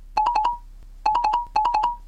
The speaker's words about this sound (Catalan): Ostres, el que em faltava, ara el WhatsApp.